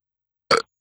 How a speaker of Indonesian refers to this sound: bahkan orang-orang ada yang sampai sendawa.